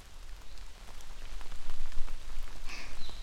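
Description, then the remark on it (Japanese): Steady rain patters on a hard surface, a dense wash of scattered droplet ticks that swells slightly louder midway, with a faint high whistle near the end. No voices. “雨音に溶けてしまうように、ゆっくり、ゆっくりで大丈夫。”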